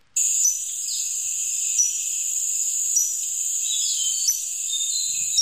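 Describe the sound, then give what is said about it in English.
Thin, very high-pitched warbler calls repeat every second or so over a steady, piercing high buzz. The calls are short and wiry, with no voices present. “It's just a very thin, high-pitched call. I remember when I first heard it, I thought it sounded like a bicycle pump when you pump in your bike.”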